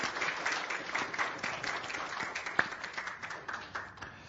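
A crowd gives a round of applause for Jason, who has been protecting the country at the border, applauding steadily for several seconds, a dense wash of many hands clapping at once with a few sharper individual claps standing out, no voices audible.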